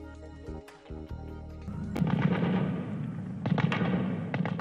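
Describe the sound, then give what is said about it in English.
Several sharp gunshots crack at irregular intervals, each ringing out with a reverberant echo over a rumbling, noisy outdoor background, in Kabul, Afghanistan, as gunmen dressed as doctors storm a hospital and battle security forces. “Gunfire echoed through Kabul as gunmen dressed as doctors stormed a hospital in the Afghan capital today and battled security forces for hours, killing more than 30 people and wounding dozens in an attack claimed by Islamic State.”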